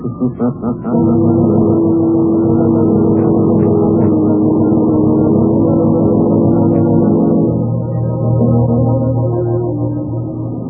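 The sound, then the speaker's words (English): A motorboat engine, its boat approaching, sputters with a few quick pulses, then settles into a loud, steady low droning hum that shifts to a slightly lower, rougher tone near the end. “Well, that sounds like their boat now”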